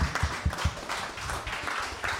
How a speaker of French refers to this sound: Acclamation pour le roi des rois. Amen.